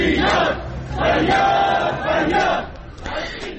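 A crowd of protesting retirees rallying for their rights in Rasht, Iran, shouts together in loud, rhythmic bursts of chanting, voices rising and falling in waves with brief dips between phrases.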